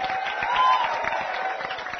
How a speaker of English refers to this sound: Let's give both of them a big round of applause.